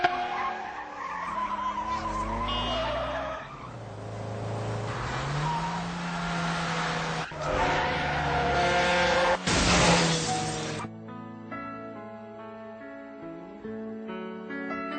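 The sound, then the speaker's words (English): A motorcycle carrying two people, its brakes broken, skids with a loud screech of tires over a revving engine, then crashes into a building with a couple of sharp, shattering impacts, followed by a steady ringing tone. “A motorcycle had crashed into a building because its brakes were broken.”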